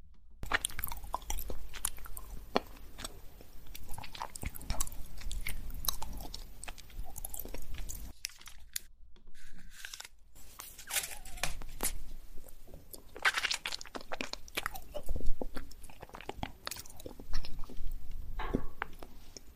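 Steady chewing with crisp, crunchy bites and wet mouth clicks repeating throughout, briefly pausing midway before the munching resumes just as busily; no one speaks.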